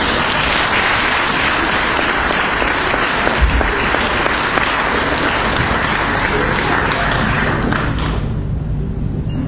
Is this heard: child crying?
no